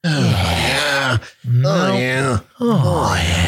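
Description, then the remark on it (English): Exaggerated, creepy heavy breathing with drawn-out grunting groans, loud, in three long voiced bursts separated by brief gasping pauses. “I'm like almost out of breath over here for just breathing weird.”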